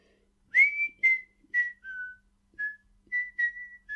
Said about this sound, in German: Und die pfeifen dann ihre Lieder.